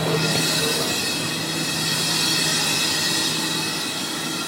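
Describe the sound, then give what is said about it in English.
A passenger train to the northern city of Kaduna rumbles steadily along the rails, a dense, continuous roar of wheels and carriage noise with high metallic hiss, loud throughout, no voices. “On the train, there are at least two officers armed with AK-47s who stand at each end of every carriage, while others patrol the corridors.”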